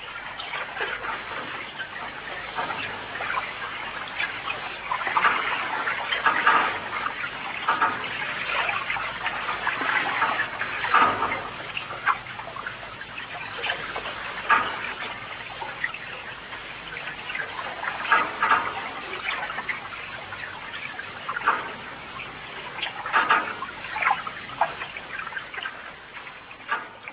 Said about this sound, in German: Das beste Mittel, unerwünschte Klänge zu maskieren, ist seit Jahrtausenden bekannt, der Klang von Wasser.